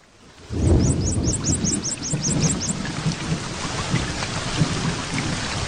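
A low rumble of thunder swells in after a brief hush, over steady, full rainfall, while a quick run of chirping bird notes repeats in the first few seconds.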